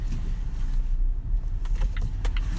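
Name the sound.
inside a car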